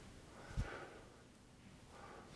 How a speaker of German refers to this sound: Ja, kannst du mal richtig ziehen, wie eine Zigarette.